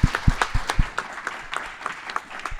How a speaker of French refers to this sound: On peut l'applaudir. Merci à vous.